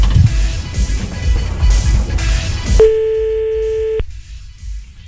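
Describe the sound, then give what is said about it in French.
A single steady telephone ringing tone sounds for about a second, clear and electronic, while calling someone back, after a stretch of noisy, rumbling background that quiets once the tone begins. “Vas-y, rappelle.”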